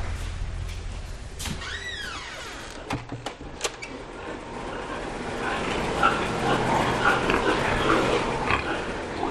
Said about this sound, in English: They're gilts, they're young female pigs.